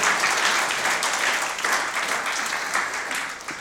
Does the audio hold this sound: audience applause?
yes